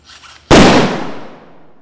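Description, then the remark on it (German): A single sharp, powerful explosive detonation from an explosive embossing test on the grounds of the Fraunhofer ICT erupts after a brief quiet murmur, striking across the whole range at once, then a long rumbling roar slowly fades away. “Bis das geklappt hat, ging es auf dem Gelände des Fraunhofer ICT einige Male recht laut zu.”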